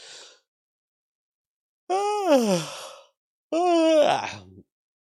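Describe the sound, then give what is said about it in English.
A person yawns twice in a row, each a long, drawn-out vocal breath that rises and then sags downward, fairly loud, with a brief breathy sound just before. “I wasn't yawning to the story. I'm yawning because I'm tired.”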